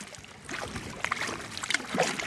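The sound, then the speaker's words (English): Paddling a big orange plastic kayak in the middle of the Rio Grande, between Texas and Tamaulipas, Mexico: irregular splashes and gurgles of paddle strokes in the water, with small plastic knocks and bumps against the hull over a steady watery wash, no voices. “I'm paddling a big orange plastic kayak in the middle of the Rio Grande.”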